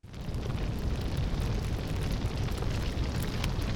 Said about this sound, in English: Fireworks, bonfire night. Such good memories.